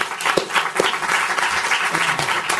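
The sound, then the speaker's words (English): An audience applauds to thank the members of a panel at the end of its session, many hands clapping in a dense, continuous patter that holds at a fairly loud, even level throughout, with no speech over it. “Now that they have a nice applause, they're going to disappear.”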